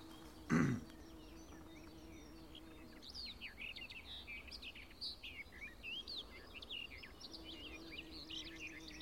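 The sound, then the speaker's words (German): A songbird sings a long, varied, rapid song strewn with mimicked phrases, some sounding like a blackbird. The song is steady and follows a short thump at the start. “Und auch sie streut Imitationen mit rein. Es klingt so ein bisschen die Amsel raus.”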